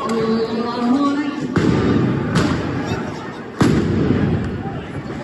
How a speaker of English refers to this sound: Police fired stun grenades during evening prayers near Al-Aqsa Mosque on Saturday.